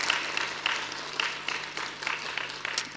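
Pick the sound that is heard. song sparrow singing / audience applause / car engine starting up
audience applause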